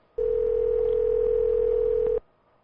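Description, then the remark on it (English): A steady, loud telephone dial tone hums for about two seconds as a phone number is being called, without wavering, then cuts off abruptly, leaving near silence. No one speaks. “Let me call this phone number.”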